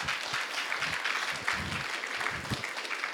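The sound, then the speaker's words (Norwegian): A church audience claps steadily with dense, crackling applause for Jesus that holds an even level throughout, broken by a few low thumps and faint murmurs beneath the clapping. “Gi Jesus en applaus for det der.”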